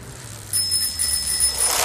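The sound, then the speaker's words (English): A bicycle bell rings with a bright, sustained high-pitched tone from about half a second in, over a low rumble of traffic-like noise, as a child cyclist rides fast past a pedestrian on the pavement. “I wish they would ride in the road. I mean, the pavement's supposed to be for pedestrians.”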